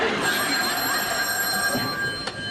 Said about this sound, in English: He's on the telephone. He's calling me up right now.